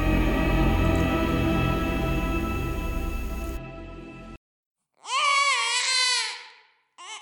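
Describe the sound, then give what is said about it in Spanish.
At night, a low, steady droning hum fades into silence, then a baby lets out a loud, wavering wail for a second or two, with another cry just starting at the end. “Una noche, el llanto de nuestro pequeño nos despertó.”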